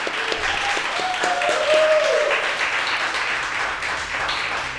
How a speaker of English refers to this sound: How about a big round of applause for Coach Pulis?